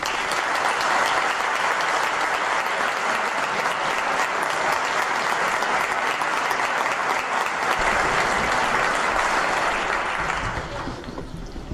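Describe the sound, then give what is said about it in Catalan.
A crowd in Sitges claps steadily for about ten seconds for a photographer receiving the second Josep Maria Jornet photography prize, a dense, sustained wash of applause at an even level that tapers slightly near the end. “Un aplaudiment”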